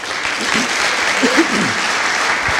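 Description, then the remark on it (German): An audience claps steadily, a dense, even patter of many hands throughout, with faint voices murmuring underneath. “Ein Applaus, mutig, ne?”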